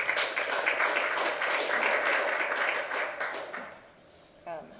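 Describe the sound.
Audience applause, a dense crackle of many hands clapping at once, holding steady for a few seconds before tapering off, with a brief voice at the very end.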